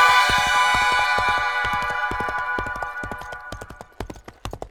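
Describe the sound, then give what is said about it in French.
A horse gallops, its hooves striking in a fast, steady rhythm of sharp thuds. At first the hoofbeats sit under a sustained, humming musical tone that gradually fades away. “Il chevaucha par monts et par vaux, traversa d'immenses déserts où le vent soufflait sans fin en faisant tourbillonner la poussière, franchit des montagnes réputées infranchissables, erra au milieu des steppes hérissées de bouleaux argentés.”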